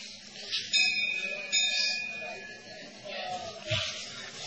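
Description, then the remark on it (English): A bell rings twice in quick succession during a spiritual talk on yoga and meditation, each strike bright and sustained with a shimmering tail, over faint background noise and a low murmur of voices. “idea is that through yoga or dhyana or meditation, or through jnanam, the cultivation of knowledge, or working without fruit of desires, karma yoga or nishkam karma yoga, the only goal to actually be obtained is the super soul, confirmed by the bell.”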